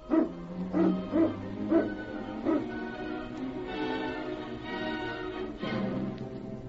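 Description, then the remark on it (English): A pack of sled dogs barks in a quick run of five or six sharp yaps as the team is roused, then breaks into sustained excited whining and whimpering, moderately loud, with no voices. “Get the dogs up, King.”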